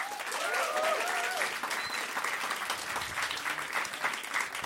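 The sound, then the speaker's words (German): A crowd applauds for the answer 'Currywurst' in an applause vote, a dense wash of clapping hands that stays loud and even throughout, with a few faint cheers or whistles rising briefly near the start. “Also, noch einmal euer Applaus für Currywurst.”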